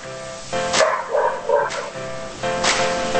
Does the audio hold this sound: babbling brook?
no